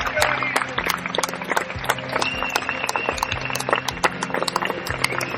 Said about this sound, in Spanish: Un aplauso, por favor.